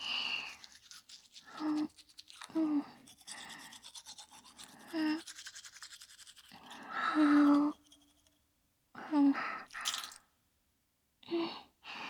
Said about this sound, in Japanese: それと、これ、歯ブラシ、歯磨き粉付きだから大丈夫。こっちの紙コップの水ですすいでね。私も歯磨きしちゃうね。